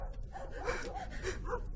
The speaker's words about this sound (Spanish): ¿No te avergüenza tener miedo de los ladridos?